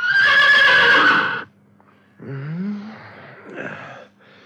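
Țugulea's horse neighs loudly, a long bright whinny lasting over a second that wakes its rider from sleep, followed after a pause by softer snorting, breathy nickers fading out.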